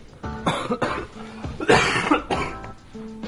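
An adult coughs: a run of about four harsh, raspy bursts at uneven intervals, the third the loudest and longest, with no talking in between.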